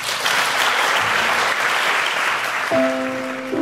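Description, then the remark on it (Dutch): An audience applauds steadily in thanks for the hard work on a renovation, a dense wash of clapping throughout, with a brief sustained musical tone entering near the end. “Daar kan ik alleen maar iedereen voor, ja, hoe zou ik het zeggen, een applaus geven.”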